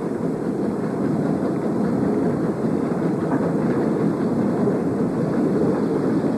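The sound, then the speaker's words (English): A train rolls steadily past through a crossing, one of two trains running together, a loud continuous rumble of wheels and cars with a faint rhythmic clatter, holding even in volume throughout with no voices. “These crosses, when you're running two trains together like this, one train goes through and everybody thinks that's it.”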